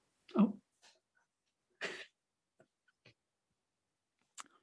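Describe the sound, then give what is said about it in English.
A person who has sucked in some wind lets out a sharp cough, followed about a second and a half later by a second, breathier hack, with a few faint clicks and rustles in the quiet between. “Sucked in some wind and had to cough.”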